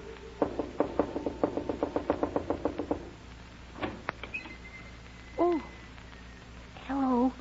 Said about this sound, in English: Whatever do you mean by knocking on my door when the sign plainly says absolutely no knocking until after 9 o'clock daylight saving moon time?